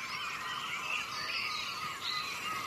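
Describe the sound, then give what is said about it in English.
A grasshopper warbler reels, a steady, unbroken high-pitched trill like a ticking insect, fairly faint and continuous throughout with no voices. “We were talking about the grasshopper warbler. You might have to listen carefully to this.”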